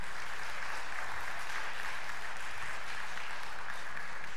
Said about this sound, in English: So put your hand together and clap and dance, because God is good.